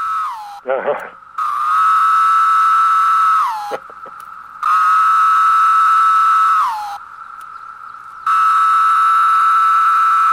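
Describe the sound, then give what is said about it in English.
A loud, droning chorus of 17-year periodical cicadas: long steady buzzing swells that each end in a downward slur, repeating in waves with short dips in between. “What you played was the 17-year periodical cicada”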